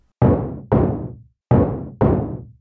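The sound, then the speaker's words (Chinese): Four firm knocks on the wooden front door of a second-floor company office at lunchtime, struck in two quick pairs with a short pause between, each one loud with a brief hollow resonance. “一阵敲门声吵醒了我，我先看了看办公室，同事还没回来，老板的房间也没有开灯，应该都还在外面用餐吧。”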